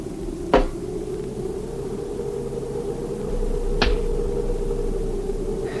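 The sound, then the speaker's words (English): A rock thrown against a wooden cabin wall by a canyon strikes with a sharp crack that echoes from the canyon like a rifle shot, followed by two more spaced-out impacts, all over a steady low mechanical hum. The first hit is the loudest. “Just an echo from the canyon if you throw a rock against the cabin.”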